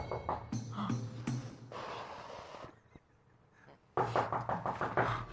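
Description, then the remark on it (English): A few sharp, loud knocks on a door, scattered among other busy, muffled sounds with a brief quieter lull before the noise returns. “Well, I rush upstairs to answer it just to stop the knocking, because what idiot is knocking?”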